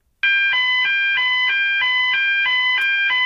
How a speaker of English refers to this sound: Let's just have a listen to the present fire alarm used by BBC Radio since 1992. We've got a recording here.